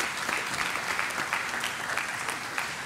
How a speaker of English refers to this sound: Can we just clap our hands to the Lord for his mercy?